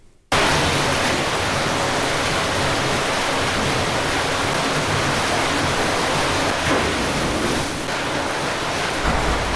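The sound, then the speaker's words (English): Water surges and churns in an aquarium splash tank holding seabass, a loud, steady rushing roar that starts abruptly and continues without a break, with no voices. “An splash tank agus an strap an seo tá iasca gúin ar bhanam Dungan Mara nó Seabass.”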